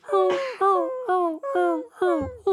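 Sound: dog whimpering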